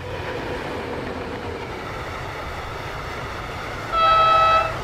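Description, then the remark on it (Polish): A train at a station platform rumbles steadily with broad mechanical noise, then near the end a loud, sustained horn blast sounds for about a second before fading. “Pociąg musi odjechać i pójdziemy pod pomnik.”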